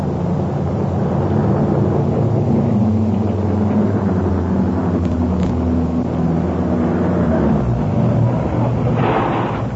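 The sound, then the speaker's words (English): A car engine rumbles steadily for the whole stretch, a low droning hum as the car rolls up to a petrol pump at a general store in the rain, with no voices present. “There's no need to get out of the car, darling.”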